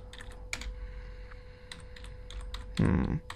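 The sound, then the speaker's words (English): Rapid, irregular clicks of someone typing on a computer keyboard during the Shakespeare Show, with sharp key taps in uneven bursts and a heavier thump at the end, over a faint steady hum. “Sorry, you gotta hear me type.”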